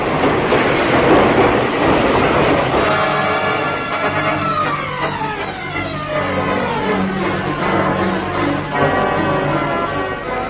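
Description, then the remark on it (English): An underground train pulls into a platform at Hyde Park Corner Underground station with a loud roaring rumble, then a rising electric motor whine with tones that glide downward as it brakes to a stop. An old lady and four others are getting ready to board. No voices. “old lady behind you and 4 others you can see getting ready to board the train.”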